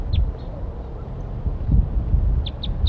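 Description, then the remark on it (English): Wild birds calling from the treetops give short, high chirping calls, a couple at the start and a quick run of three near the end, heard over a steady low rumble of wind or background noise. “So recording, we got wild birds calling from the treetops.”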